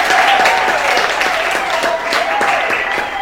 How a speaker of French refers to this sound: On peut encourager le coach Patou Ousseni avec des applaudissements.